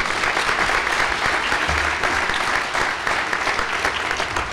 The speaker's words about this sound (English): Ladies and gentlemen, let your applause show our appreciation for a lucid and great informative lecture. Thank you.